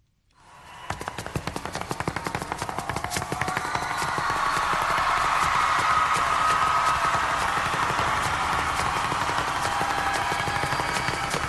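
Rapid, sharp heel taps from pointed-toe shoes, a fast flamenco-style zapateado that builds from quiet to loud and keeps a dense, driving rhythm throughout, with no voices.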